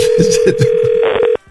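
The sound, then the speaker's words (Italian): A steady, single-pitched telephone ringback tone sounds for over a second and then cuts off, heard on an outgoing call with faint voices murmuring underneath. “Questo squilla.”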